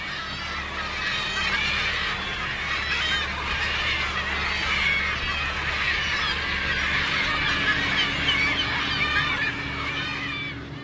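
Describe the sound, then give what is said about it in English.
A flock of about 500 gulls and gannets at sea, waiting to be fed leftovers from the fish catch, squawks and cries nonstop, a dense, overlapping chorus of harsh calls, with a low engine rumble steady underneath. “Any leftovers go back to the sea where there's about 500 hungry mouths in the form of gulls and gannets waiting to be fed.”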